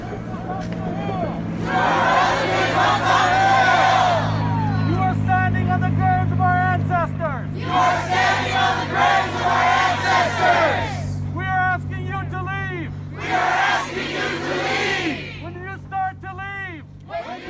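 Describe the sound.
A crowd of protesters, putting on face masks and goggles to brace for a chemical attack, shouts in loud, surging bursts of many voices, with chanting-like harmonic cries rising and falling over a steady low rumble.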